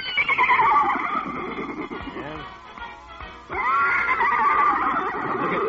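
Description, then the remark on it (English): A horse neighs loudly, a long shrill whinny that fades briefly in the middle before bursting out again and carrying on to the end, as it races across parade grounds after a band playing music. “Why, that horse is racing across the parade grounds after the band.”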